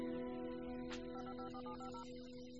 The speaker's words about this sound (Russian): Мы позвоним ему и попросим помочь. Воспользуемся шпионским телефоном.